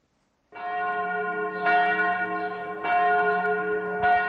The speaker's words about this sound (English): Bells at the Church of the Nativity summon the faithful to celebrate Christmas at the traditional birthplace of Jesus in the West Bank town of Bethlehem.